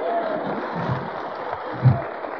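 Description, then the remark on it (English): An audience claps steadily for a couple of seconds, a dense, even patter of many hands at moderate loudness, with a brief low thump near the end. “Now, folks, you're clapping at the wrong thing.”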